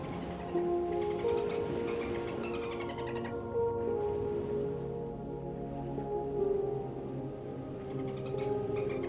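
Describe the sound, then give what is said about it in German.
Dolphin whistles rise and fall in long tonal calls over steady bursts of rapid clicking, continuous throughout, with no one speaking. “Und während du jetzt hier so liegst und das Meeresrauschen seine entspannende Wirkung auf dein gesamtes Wesen entfaltet, kannst du noch etwas anderes hören.”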